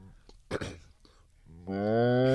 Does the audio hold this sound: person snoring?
no